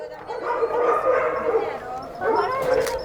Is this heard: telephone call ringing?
no